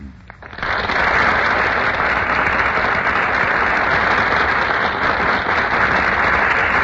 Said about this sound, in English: Ladies and gentlemen, that burst of applause is for Madeline Carroll and Melvin Douglas, who have just made their entrance on our Gulf Theater stage.